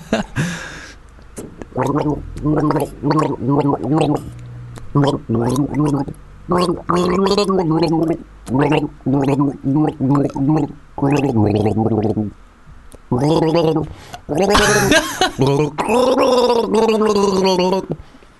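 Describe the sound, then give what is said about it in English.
Someone gargles water while voicing a melody through it, producing a loud, bubbly, pitched warble in phrased bursts that follow a song's rhythm for about eighteen seconds. “I keep swallowing it.”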